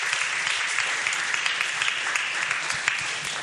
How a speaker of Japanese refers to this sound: As an act of faith, we're going to give a clap to you, Lord.